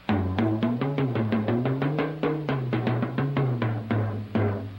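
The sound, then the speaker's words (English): A West African talking drum, carved from wood in an hourglass shape with two skin heads bound by leather thongs, is struck in a steady stream of quick beats while pressure on the head bends its tone between lower and higher pitches. It's loud and played alone. “And by varying the pressure on the head of the drum, it's possible to change the pitch from low tones to high, like this.”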